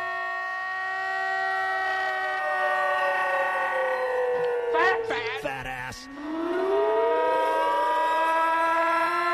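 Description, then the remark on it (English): A loud novelty tornado-warning-style siren, the first of three versions of a 'fat alarm', wails with a rich, buzzy tone, its pitch sliding slowly downward, sputtering briefly midway, then climbing back up and holding steady. “There are exactly three versions of the fat alarm. That's version one.”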